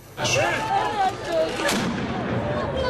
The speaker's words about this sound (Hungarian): Ágyúlövéssel, sortűzzel és lovasütközettel kezdődött az 1849. március 5-i szolnoki csatát felelevenítő hadijáték.